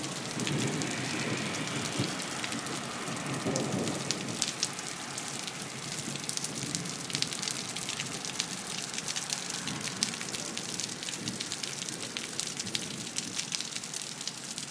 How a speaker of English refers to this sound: There's some thunder for you.